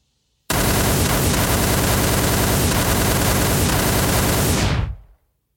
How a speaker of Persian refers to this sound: یک بار همه صداهای دنیا از بوق و صدای موتور و ماشین و پرنده و هر صدایی که توی استانبول پخش بوده قطع میشه و فقط میشه صدای تیر و شلیک که قطع نمیشده که نمیشده که نمیشده.